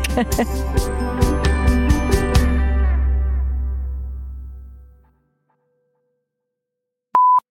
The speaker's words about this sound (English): Hold the phone. That would be the loudest ice machine you've ever heard. Okay, there it goes.